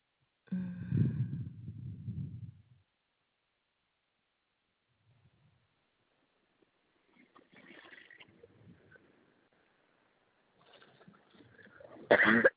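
Repeated coughing: a heavy, rough fit at first, a quiet pause, then more scattered coughs that end in one sharp, loud burst.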